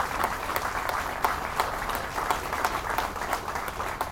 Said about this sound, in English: But I think we owe all of these employees and this company a huge round of applause for what they do down here today.